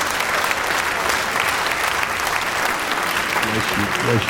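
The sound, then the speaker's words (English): Sustained, dense applause from a crowd welcoming a woman preacher, steady and loud throughout, with a voice speaking briefly over the clapping near the end. “Come on, put your hands together and welcome her.”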